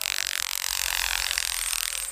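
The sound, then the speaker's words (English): A grasshopper's wings snap in flight, a dry, rapid crackling rattle that holds steady for about two seconds, bright and buzzy with a fast pulsing texture and no voices. “you can see the grasshopper in flight at that point because they have left wherever you have just scared them out of the bush.”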